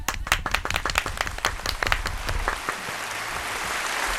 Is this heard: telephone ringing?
no